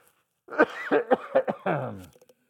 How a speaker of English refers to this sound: It's just a dry cough.